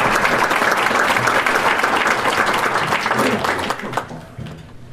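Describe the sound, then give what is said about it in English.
A crowd applauds the workers, supervisors, city staff and IDOT for a finished bridge project, with dense, steady clapping that holds strong for about four seconds before tapering off near the end. “And I want to give all the workers and our supervision and all the staff of the city, IDOT, and all those people a round of applause for what I consider a good-looking job and a project well done.”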